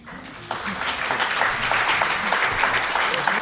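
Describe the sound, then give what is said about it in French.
An audience at a literary event with Maryse Condé at the Alcazar breaks into steady applause for the moderator Mireille Sacotte, a dense patter of many hands clapping that swells after a brief quieter start and holds at a fairly loud level throughout. “Alors cette rencontre va être animée par Madame Mireille Sacotte, que vous pouvez applaudir.”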